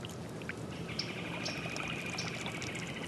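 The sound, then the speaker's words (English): Gas bubbles seep slowly up through swamp water at the edge of a cypress-studded swamp by a front yard in Bayou Corn, in a soft, steady gurgling trickle, faint and continuous for a few seconds, with a thin high chirping tone faintly above it and no voices. “And you can see the bubbles coming up right there? That's gas. That's gas coming up right there. It's just seeping up slow.”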